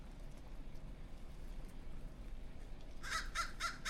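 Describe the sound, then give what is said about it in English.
A few harsh crow caws burst out in quick succession near the end, loud, after several seconds of steady low outdoor rumble, from a group of crows known as the Saddleback Mountain Murder being fed. “We are listening to some crows being fed.”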